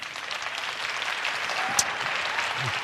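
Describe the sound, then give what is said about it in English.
Steady audience applause at the end of a presentation fills the whole stretch, a dense, even wash of many hands clapping at once with no pauses and one slightly sharper clap near the end. “Applause, applause, applause, applause.”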